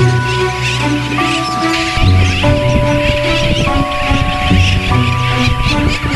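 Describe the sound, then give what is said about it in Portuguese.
A dense, continuous chorus of many tropical seabirds calling at once at a breeding colony on an atoll in the South Atlantic, the region's largest, including brown and black noddies and boobies: overlapping squawks and chatter at a steady, fairly loud level throughout, with a low droning undertone beneath. “O atol, ele é a maior colônia reprodutiva de aves marinhas tropicais do Atlântico Sul.”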